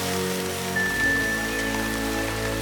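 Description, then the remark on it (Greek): Rain falls in a steady, soft patter throughout, layered with sustained ringing musical tones and a thin high whistle-like note that appears partway through; no one speaks. “Στον ουρανό από πάνω τους άστραψε ένα φως και νεραϊδένιες λάμψεις άρχισαν να πέφτουν, που μετατράπηκαν σε σταγόνες βροχής, σβήνοντας τη φωτιά.”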